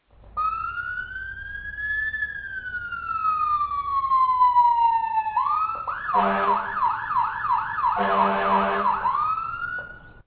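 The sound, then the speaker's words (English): A siren sound effect, tested as a buzzer meter track: one long wail that rises and slowly falls, then switches to a fast, pulsing yelp with a harsh buzzing edge. It is loud and steady, with no voices. “Buzzer meter test number one sound effect.”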